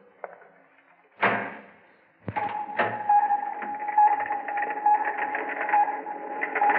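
door being opened

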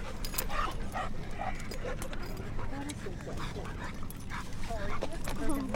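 puppies barking and whimpering

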